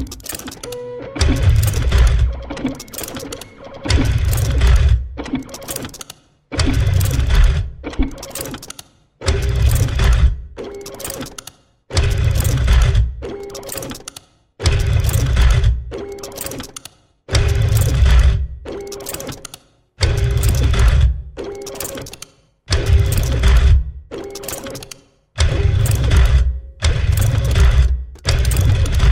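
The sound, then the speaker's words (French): A dot matrix printer buzzes and rattles in loud, regular bursts with short pauses between them, its whining print-head tones forming a steady mechanical rhythm like music. No voices. “Eh bien, écoutons une imprimante qui vibre, une imprimante matricielle.”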